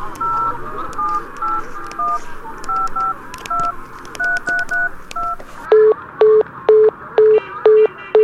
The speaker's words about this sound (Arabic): هذه المرة الثانية التي أتصل ولكن الهاتف لا يزال مشغولا. مستحيل أن يبقى مشغولا هكذا.